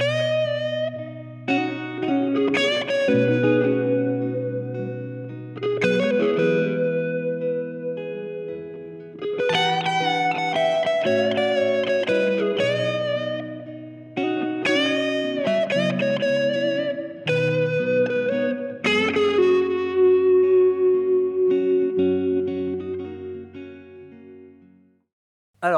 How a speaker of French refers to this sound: Pour cette partie lead, pour ce petit solo, donc j'ai enclenché une légère distorsion, donc j'ai vraiment un gain qui est pas très très très très élevé.